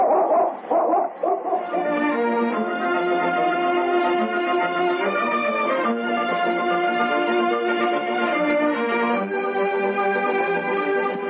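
A dog named King, set to follow a trail in a storm, gives a few quick, choppy barks, then breaks into a long, steady, high-pitched whimpering whine that wavers in pitch and carries on loudly to the end, with no talking.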